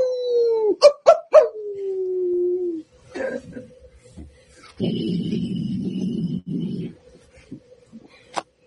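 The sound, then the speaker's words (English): A single long, wolf-like howl slides slowly downward in pitch for a few seconds, loud, followed by scattered thumps and a stretch of muffled rumbling noise. “The only thing to do is howl back.”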